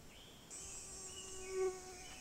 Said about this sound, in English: That was a mosquito.